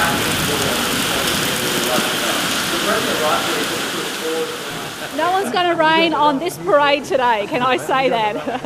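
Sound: heavy tropical rain falling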